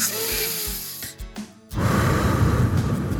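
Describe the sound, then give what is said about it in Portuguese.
A deep diaphragmatic breath, done to practise calming the nervous system: a quieter, slightly rustly inhale followed by a long, loud, airy exhale that rushes out steadily for over a second, with no talking. “Respira e solta. Você vai estar praticando a regulação do sistema nervoso. Sabe essa respiração diafragmática?”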